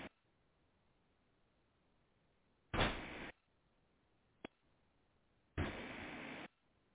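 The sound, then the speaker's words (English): A door opens and shuts as someone comes in: two loud, rushing bursts about three seconds apart with a sharp click between them, and no one speaking. “Who just came in the door?”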